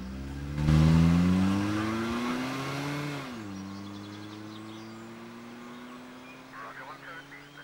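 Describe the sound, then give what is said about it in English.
A car engine roars, revving higher as it accelerates, drops pitch briefly at a gear change, then keeps pulling away with a steady hum, as the car drives off after Theo gets back in at gunpoint. “Threatened with the gun, Theo gets back in the car.”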